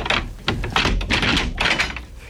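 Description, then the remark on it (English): A heavy bolted prison door grinds and clanks open, a series of loud metallic scrapes and rattling bursts over about two seconds, with no voices. “Even if all the guards were asleep, the sound of the door opening would awaken them.”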